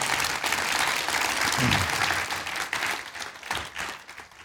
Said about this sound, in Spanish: Esas palmas que se juntan y hacen este ruido hermoso y jubiloso es únicamente para decirte, para expresarte lo que sentimos en nuestros corazones.